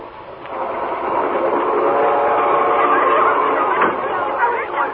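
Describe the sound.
A night train bound for Boston rolls steadily along the rails with a continuous rumbling clatter, heard from inside a car, while indistinct voices murmur faintly in the background.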